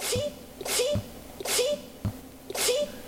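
A small, cute sneeze repeated in a quick series of about four sharp, breathy bursts, each with a brief intake before it, moderately loud with no talking.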